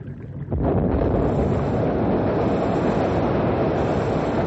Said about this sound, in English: We're all set now to blow up the jam. I certainly hope it moves the ice out after all the work you've gone through,